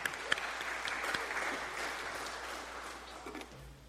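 An audience applauds four people steadily, a dense wash of many hands clapping at an even loudness that tapers slightly toward the end, with no talking over it.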